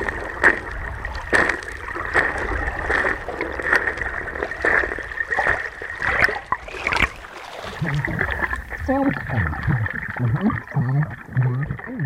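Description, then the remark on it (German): Footsteps recorded with an underwater microphone in a cold river while wading almost chest-deep: a series of muffled, irregular thuds and scrapes over a steady watery hum, followed by softer gurgling, wavering sounds. “Und so klingen die Schritte unter Wasser.”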